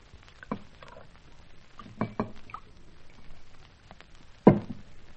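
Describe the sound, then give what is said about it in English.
A cocktail being poured from a shaker: a few sharp knocks and clinks with light drips and splashes, fairly quiet, ending in one louder clunk. No one speaks. “But let me pour another cocktail.”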